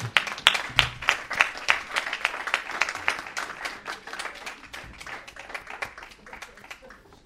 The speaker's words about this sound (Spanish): Un aplauso a nosotros.